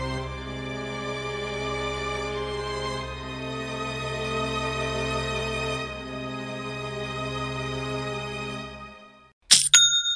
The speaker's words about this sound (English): that's the sound of another sale on your online Shopify store